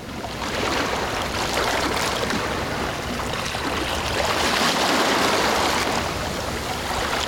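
Sea waves splash and wash onto a shore in a continuous, fairly loud roar of surf with gentle swells, and no voices or other sounds.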